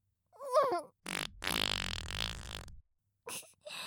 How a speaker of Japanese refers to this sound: おならかけて幸せそうだね。